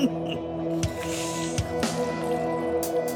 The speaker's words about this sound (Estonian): Ainsaks heliks, keset elutud maastikku, oli vedeliku voolamine paakunud kõrri.